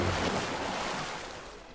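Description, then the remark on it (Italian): A loud, continuous rush of splashing, churning water as Tarzan leaps from a cliff into the water where elephants are bathing, holding steady and then easing off slightly toward the end, with no voices. “Con grande sorpresa di Terk, Tarzan si lanciò dal dirupo, finendo nell'acqua dove facevano il bagno gli elefanti.”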